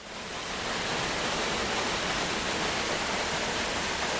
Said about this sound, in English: The waterfall is definitely worth a look, and the power of the white water plunging vertically over the rock is impressive, You can feel it vibrating through the wooden handrails of the viewing point.